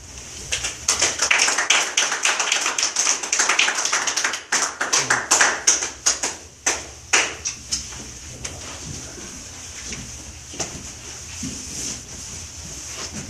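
A group of people claps, starting as a dense, lively burst of applause, then thinning into a few scattered claps before fading out over a faint, steady background hiss.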